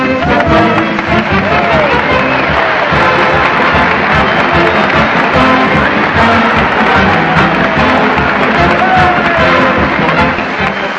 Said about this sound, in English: Here they come, folks. The streets are packed and the crowd forms in line ready to follow Fred Allen as he leads the weekly parade to the old town hall.